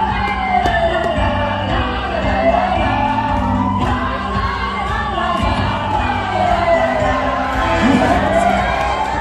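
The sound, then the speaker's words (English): A packed crowd at a monthly wrestling gathering at the Oakland Metro Opera House cheers and roars steadily, the dense noise loud and unbroken, while a wavering siren-like tone rises and falls through the din. “To bring us the story behind the sound, we sent KALW's Zach Mack to a monthly gathering at the Oakland Metro Opera House.”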